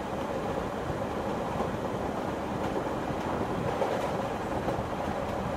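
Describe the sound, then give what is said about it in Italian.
A train heading for Orvieto, Italy, rolls steadily along the rails, a continuous low rumble with a dense, rhythmic rattle running through it at an even loudness from start to finish. No one speaks. “Ah, ho paura di perdere la mia fermata, perché in treno mi addormento sempre.”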